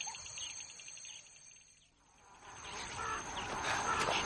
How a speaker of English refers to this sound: Look over there, about half a mile away. Masses of birds wheeling round.